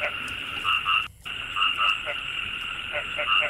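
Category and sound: animal, frogs croaking at night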